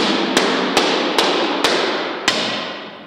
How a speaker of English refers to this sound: What are these panels made out of? It's a plastic polymer material. The best thing I can compare it to would be like a cutting board that you have in your kitchen. He throws the panels on the floor and starts hammering them into place.